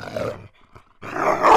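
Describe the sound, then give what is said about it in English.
A dog, Jasper, gives two low, rough growls, fairly loud, separated by a brief quiet pause, with the second growl building in intensity, as it approaches an oak tree during a walk across a property. No one speaks. “As we approached the oak tree, Jasper began to growl.”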